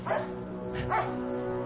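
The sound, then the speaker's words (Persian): A dog barks twice in short, sharp yips over a steady low background hum. “این سگ توه؟”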